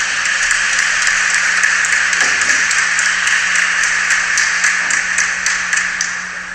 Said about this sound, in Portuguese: É claro que alguns aplaudiram, tem muita gente xingando nessas alturas do campeonato